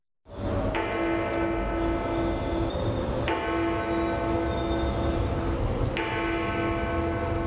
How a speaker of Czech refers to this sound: Čuveni londonski časovnik Big Ben zvonio jutros 3 minuta i tako označio prvi dan 30. olimpijskih igara u Londonu. Prvi put nakon 60 godina Big Ben oglasio se mimo punog sata.